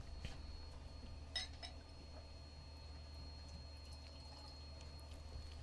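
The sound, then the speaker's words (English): Faint, quiet pouring of water into a glass for the engineer, with a soft clink of glass early on and a low steady background hum; no one speaks. “I'm going to cleanse my palate with some water. Glass for engineer Mike, please.”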